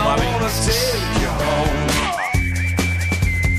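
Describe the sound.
A bright whistled melody rises out of a full band backing of drums and bass, the high tone gliding up and holding steady for the last second or so.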